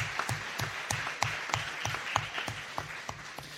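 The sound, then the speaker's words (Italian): An audience at the opening of the 15th Diocesan Biblical Week applauds, the clapping settling into a fairly steady, rhythmic beat of sharp claps over a continuous wash of hand noise, at a moderate, even level with no talking. “Visti da qui siete proprio belli, siete numerosi ed è una bellissima assemblea, quindi facciamoci un applauso iniziando così la nostra settimana biblica.”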